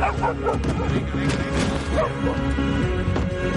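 Police dogs bark loudly and repeatedly in quick, overlapping bursts, with a few higher yips and whines mixed in over a constant rumbling background commotion.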